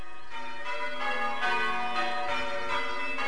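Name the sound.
church bells change ringing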